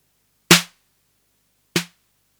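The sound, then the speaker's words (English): Two crisp snare hits from a modified drum machine about a second apart, each a sharp noisy crack over a short low tonal thump that decays quickly into silence. The machine's noise control pot is set to about normal level. “That's the modified one, but it depends on the level of the noise control, which is the pot at the front on the right hand side, next to the accent button, and I've set this somewhere where I think is about normal level.”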